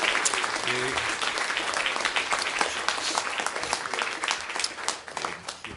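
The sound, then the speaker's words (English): A church audience gives a clap of praise to the Lord, clapping steadily, a dense, continuous wash of many hands with scattered sharper slaps, holding at an even loudness for several seconds, with a few faint voices underneath. “Let's give the Lord hand a clap of praise.”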